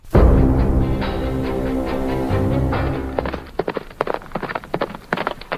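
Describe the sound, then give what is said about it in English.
The hooves of a pair of matched gray horses hitched to a carriage clatter along, starting with a rumbling, steady roll and then breaking into rapid, sharp clip-clops as they are driven full tilt. “You're going to kill these horses, Mr.”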